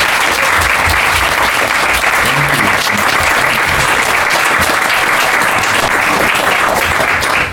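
A crowd claps steadily and loudly for Maharaj at a gathering before a vegan dinner, a dense, even patter of many hands that holds at the same level for several seconds before easing off at the very end.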